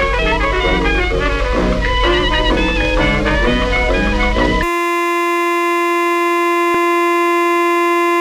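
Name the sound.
siren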